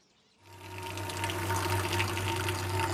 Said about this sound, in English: Ames pours milk into a container to make cream.